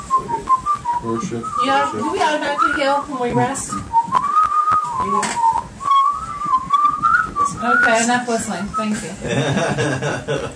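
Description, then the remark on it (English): A person whistles a wavering, sustained tune for several seconds, fairly loud, while other voices talk and chuckle underneath. “Okay, enough whistling.”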